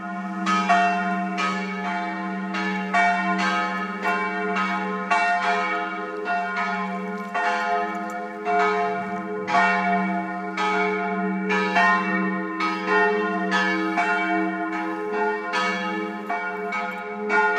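Church bells peal continuously on a Sunday, calling people to church, in an overlapping, rhythmic ringing, loud and full with a steady low hum beneath, with no voices present.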